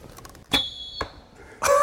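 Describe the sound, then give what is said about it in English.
In archery, a sharp release snap followed by a steady, high-pitched whistle as an arrow with a whistling arrowhead flies through the air, ending in a thud, then another loud impact or release noise. “Whistling arrowhead.”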